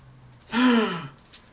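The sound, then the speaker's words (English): A single loud, dramatic gasp made by a voice acting out the gasp of everyone around the Buddha, a breathy intake with a rising-then-falling vocal tone lasting about half a second, followed by a faint breath. “Gasp by everybody around the Buddha.”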